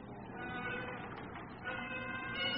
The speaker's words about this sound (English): What's that? What's that? I gave no order to sound the foghorn. No, that's no foghorn. It's the bagpipes. Bagpipes?